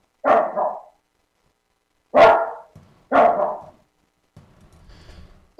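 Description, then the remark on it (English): A dog barks loudly at someone passing in front of the door, four sharp barks spaced irregularly with short pauses, a low grumbling whine between the later barks. “All right, we want to deal with a dog or what?”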